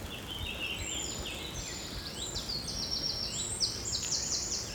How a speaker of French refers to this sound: Et puis il y a les lignes de tension. Là, je monte le niveau du micro pour bien l'entendre. Ça crépite.